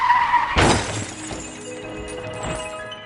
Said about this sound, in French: En 1954, Édouard Ravel et son épouse Angèle Bonnet sont victimes d'un accident de voiture.